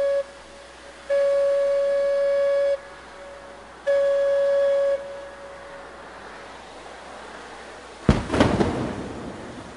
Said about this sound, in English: a blast of dynamite loosens a 25-ton block of granite high up on Rattlesnake Hill in Concord. Well, you're looking at a granite quarry that's been in operation since at least 18, 20, or 30.